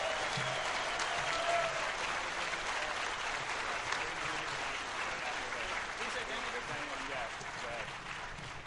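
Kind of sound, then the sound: crowd, round of applause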